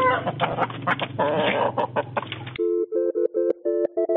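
A chicken, put on the phone during a call, clucks in a dense, busy burst at first, then settles into a string of short, evenly spaced clucks, fairly loud with no talking.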